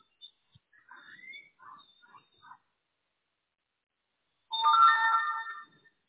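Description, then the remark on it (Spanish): A phone chimes with a short run of chirpy notification beeps as welcome text messages arrive, then after a brief pause a louder, fuller electronic tone rings out for about a second. No one talks. “Ahorita le van a empezar a llegar mensajes de texto a correo electrónico dándole la bienvenida.”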